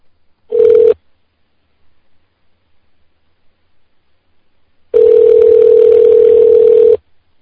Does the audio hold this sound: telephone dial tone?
yes